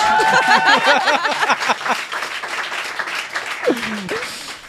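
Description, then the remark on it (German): A crowd bursts into dense, steady applause that fills the whole clip, with high whistles and cheering at the start and a single falling whistle near the end. “Ich will jetzt einen Applaus, bitte.”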